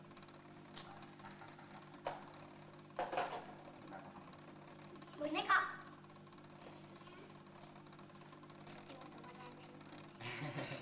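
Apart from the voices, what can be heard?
sewing machine running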